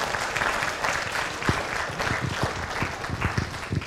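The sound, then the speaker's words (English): A church audience on Celebration Sunday applauds the Praise Team steadily, a dense wash of many hands clapping that holds for several seconds at moderate loudness, with no talking over it. “Why don't we give him a round of applause for Praise Team for leading us here, huh?”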